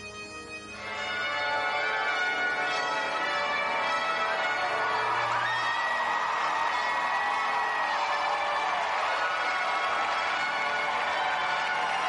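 A large crowd cheers and shouts continuously, a dense, loud roar of many voices that swells in after the first second and holds steady throughout.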